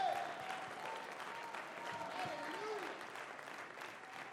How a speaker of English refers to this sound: Somebody clap your hands unto the Lord with me.